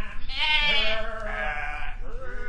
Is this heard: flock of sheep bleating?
yes